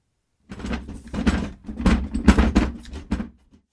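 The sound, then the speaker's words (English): A young woman quickly shuts a door, with a few seconds of clattering, scraping bursts as it slides and knocks into place. No one speaks. “the young woman's haste to shut the door indicated that she was wary of the old woman.”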